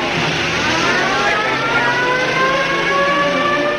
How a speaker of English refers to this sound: Pedestrians scurry and duck for safety as Bert fires into the air, running for his squad car. He pursues with sirens wailing as George disappears into the night.